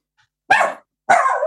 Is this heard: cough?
no